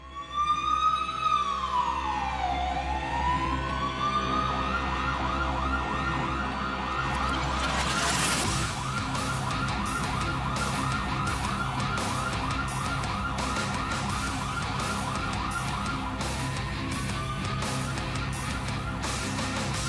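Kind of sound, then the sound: vehicle, ambulance siren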